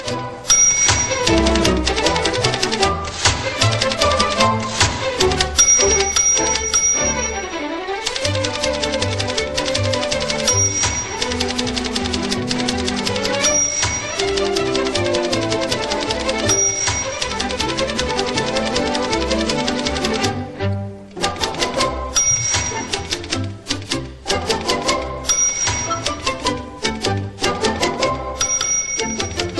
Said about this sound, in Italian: E questa è la famosa sequenza della macchina da scrivere sinfonica, mimata, come molti ricorderanno, da Jerry Lewis, un omaggio alla lettera 22 di Olivetti, di cui parleremo tra un attimo.